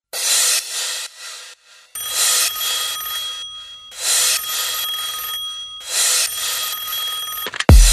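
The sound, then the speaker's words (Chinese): A telephone rings four times in steady, evenly spaced bursts of bright, rattling bell tone, loud, with brief silences between rings and no voices. “一开始又紧张了，什么话都不说了，让我们接着电话一起来玩吧。”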